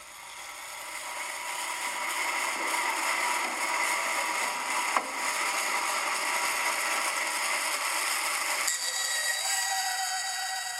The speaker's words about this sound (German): Es werden zuerst die Rohlinge geschnitten, auf der Bandsäge ausgesägt